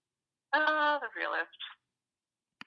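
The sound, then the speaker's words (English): A phone notification goes off: a bright, tonal chime followed by a couple of quick, buzzy electronic blips, clear, then a short click after a pause. The phone has just started receiving a flood of notifications. “Sorry, my phone just started blowing up about, that issue.”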